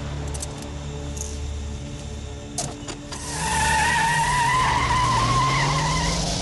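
On a sunny street, a car engine idles low, then after a few clicks it revs hard and a long, loud tire squeal rises and holds as the car skids away at speed and drives straight through a red light.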